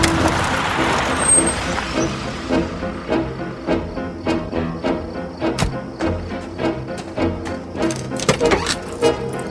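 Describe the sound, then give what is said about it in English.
A car rolls along the road and slows to a stop at a dumpster, its engine humming steadily beneath a series of regular soft knocks and a brief brake hiss. “A car passes on the road behind her and comes to a stop at a dumpster.”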